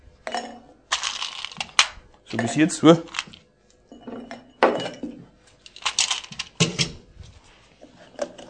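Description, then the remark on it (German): A university professor drops several balls into a glass jar one after another in front of students, in irregular bursts, clattering and clinking against the glass, fairly loud, while a person talks briefly between the drops. “Der Universitätsprofessor hat Bälle in das Glas reingefüllt.”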